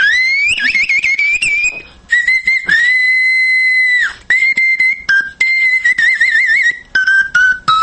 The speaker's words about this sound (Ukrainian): як його в світі відомий, це флейта Бога Пана, флейта Пана